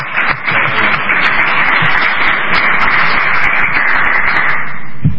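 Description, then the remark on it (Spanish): A crowd at the Hotel Corona de Granada, Pedro Antonio de Alarcón 10, in Granada, applauds a chess team's third-board guest, steadily, a dense wash of many hands clapping at an even, loud level for several seconds with no one speaking over it. “Ahí, pues se puede ahí aplaudir, ¿eh?”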